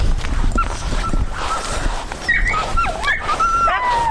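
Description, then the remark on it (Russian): Several hounds, bred by a family on their hectare of land, whine and whimper in high, wavering tones, with a few short barks mixed in. The dogs keep it up steadily against a noisy outdoor background. “Семья увлекалась разведением гончих собак.”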